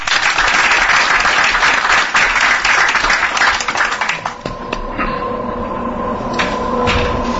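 A crowd applauds in a dense, steady roar of clapping for about four seconds, then thins out and fades while a faint sustained tone hums underneath.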